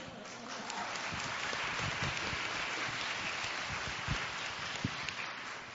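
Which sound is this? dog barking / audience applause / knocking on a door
audience applause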